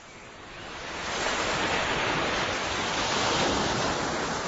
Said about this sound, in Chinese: 田螺姑娘说完了这句话，天空中突然刮起了一阵大风。一阵风雨过后，田螺姑娘早已不见了踪影。